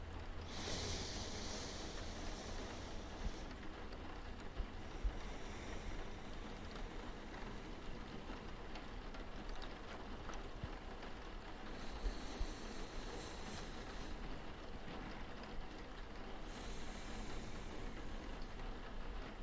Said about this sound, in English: Just listen. Listen to my voice. Listen to the sound of my breathing.